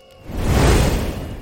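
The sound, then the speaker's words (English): A loud, roaring whoosh of a jet of fire bursting from a great beast's mouth swells up quickly, holds with a rushing, crackling breadth across the spectrum, then slowly eases off without fully fading. “And a jet of fire bursts forth from its great maw.”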